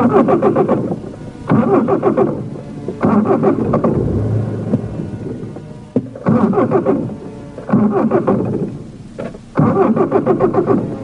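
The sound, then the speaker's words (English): A car engine cranks repeatedly without catching, several grinding starter bursts of about a second each separated by short pauses, loud, with no voices. “It won't turn over. I think we're out of gas.”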